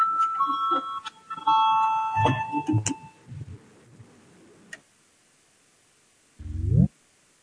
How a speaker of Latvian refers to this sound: Lūdzu zvanu, balsosim par 100. ministra kabineta priekšlikumu.